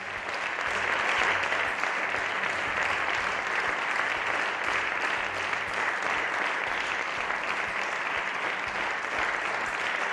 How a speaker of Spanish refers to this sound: Así aplauden los vecinos de San Chinarro en un micrófono de Lupe Ortiz. Es un día más, señoras y señores, el emocionante homenaje de los vecinos de Madrid, de los madrileños, a nuestros sanitarios